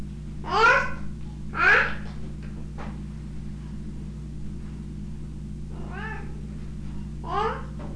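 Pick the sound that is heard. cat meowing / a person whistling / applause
cat meowing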